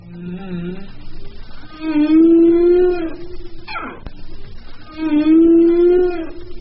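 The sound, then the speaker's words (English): Humpback whale song: long, rich moaning tones that rise and hold, twice, with a quick sweeping cry between them, loud and resonant with no talking. “They've discovered that whales mimic each other's songs.”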